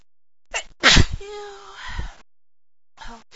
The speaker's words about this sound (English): But I have no idea what's making me sneeze. What's making me sneeze so much? Oh, my nose. Oh, this is the worst. Sneezing fit I've ever had. I never... Oh, never sneezed like this, not this much.